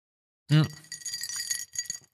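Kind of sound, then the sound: household object, ice cubes clinking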